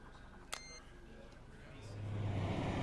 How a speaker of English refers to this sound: A massive lorry, all gleaming white paint and polished chrome, turns off the road and onto a forecourt.